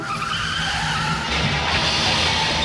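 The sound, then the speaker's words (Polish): A car skids in a road accident with a loud, sustained tire screech lasting a few seconds, harsh, the squeal shifting in pitch as the vehicle slides. “Tak, chyba nic mi nie jest, ale mój biedny samochód. Wypadki zdarzają się najlepszym.”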